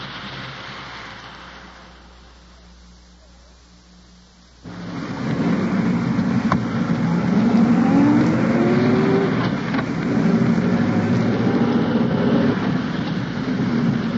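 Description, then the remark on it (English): Steady engine and road rumble fills the cabin of a moving undercover police car carrying detectives investigating a holdup, quieter for the first few seconds, then swelling into a louder, continuous drone with no one speaking. “At present, I'm riding in an undercover car”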